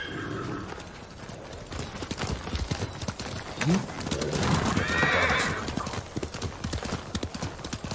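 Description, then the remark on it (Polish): A horse's hooves clip-clop in a steady rhythm, and midway a loud whinny rises over the footfalls before the trotting carries on. “Dajcie mi konia.”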